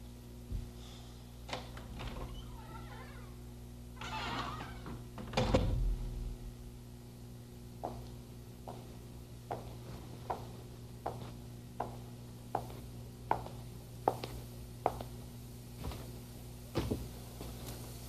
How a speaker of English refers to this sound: I guess the opening and closing of the door, and then his footsteps coming along. All that probably before he'll speak.